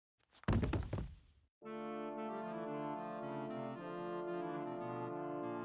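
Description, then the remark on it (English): A gun is slammed down on the top of a man's head in a single heavy blunt blow with a loud thudding impact, then cuts off into a sustained, swelling dramatic music chord that holds to the end. “Once he stuck his head out, looking for my corpse, I slammed my gun down on the sleek brown top of his head.”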